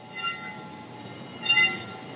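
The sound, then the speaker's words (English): Church bells ringing with sustained, overlapping metallic tones that hum steadily and swell louder twice, the second swell the strongest, over a low rumbling background with no one talking. These are the church's nightly bells, rung every night at 8 o'clock for about 10 minutes. “Every night at 8 o'clock, we ring the bells for about 10 minutes.”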